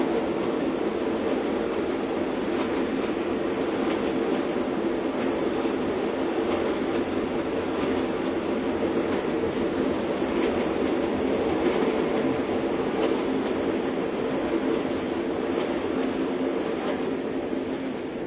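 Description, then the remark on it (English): A train rolls steadily along railway tracks in India, a continuous loud rumble with faint rhythmic clatter, without pause for the whole stretch, with no voices. “India has a wonderful railway system.”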